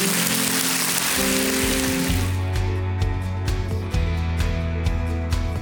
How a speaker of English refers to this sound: Would you thank him with a clap offering? Go ahead.